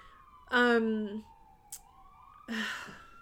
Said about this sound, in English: sirens.